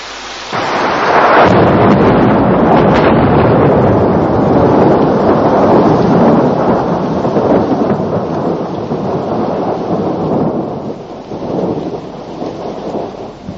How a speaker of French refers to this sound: Mais garde ou pas garde, c'est pas toi qui vas faire quelque chose pour que l'orage s'en aille.